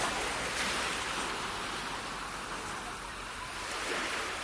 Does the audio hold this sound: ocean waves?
yes